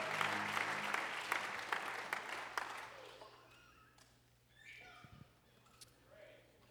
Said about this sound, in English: Give them one more hand clap of praise as you're seated in the presence of the Lord.